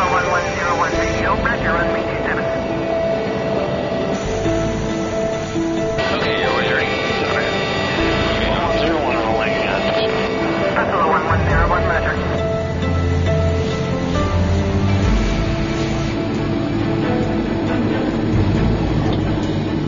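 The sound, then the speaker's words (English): Airplane engines of Buffalo 1101, with a brand new engine and APU, drone steadily while taxiing for departure on runway 27 with a right turn out, a continuous whining hum with shifting tones throughout, with muffled voices underneath. “Buffalo 1101, now taxiing for departure, runway 27, right turn out.”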